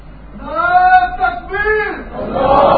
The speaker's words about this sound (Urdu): یہ نعرے بازی نہیں کرو بھائی, مہربانی کرے, بچے تھوڑی ہو آپ لوگ, کوئی نعرے بازی سے کوئی اللہ مل جاتے ہیں کیا؟